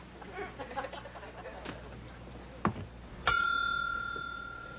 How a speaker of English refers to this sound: Ring the bell, Willie.